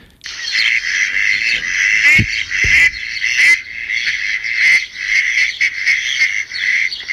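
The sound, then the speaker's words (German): A dense chorus of mallard duck calls, many voices overlapping into a steady, raspy chatter that carries on without pause at a fairly loud level, with no talking. “Das ist die Stockente, aus der ja unsere Hausenten rausgezüchtet worden sind.”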